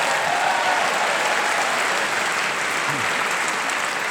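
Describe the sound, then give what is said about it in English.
Sustained, loud applause from a large audience for Clement Foy's turn on a panel game, a dense steady wash of clapping with no pause or talk over it. “Well, Clement Foy justifiably got a very strong round of applause.”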